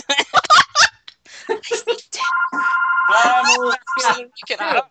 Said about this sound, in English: It's the phone from the 80s. Let's wait for his tape answering machine to kick on.